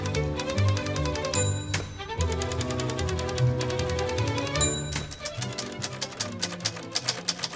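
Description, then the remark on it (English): Rapid clacking of the keys of an Olympia manual typewriter, German manufactured, in a typewriter shop in Brick Lane in London's East End. The keys clack in a steady stream, with a bright bell ding ringing twice along the way. No one speaks. “This is an Olympia, German manufactured.”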